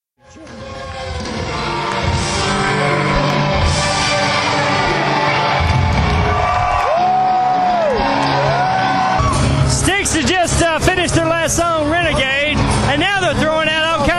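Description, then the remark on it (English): A large concert crowd cheers loudly and steadily after the band leaves the stage at the end of the show, a dense roar with a few rising whistles, then a burst of high shouts and screams layered over the din toward the end. “They waved goodbye, said goodnight, and they left the stage and listened to the crowd and what the fans thought about the show.”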